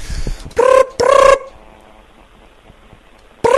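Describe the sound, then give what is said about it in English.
A telephone rings with loud, buzzy electronic tones: two short bursts in quick succession, a pause of quiet, then another ring starting at the end. “Oh, it's still ringing.”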